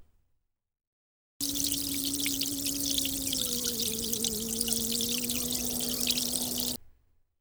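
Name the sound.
tap water running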